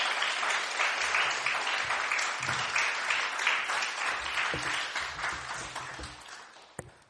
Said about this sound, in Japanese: 大きな拍手を持って愛するヒューマン先生をお迎えしましょう。よろしくお願いします。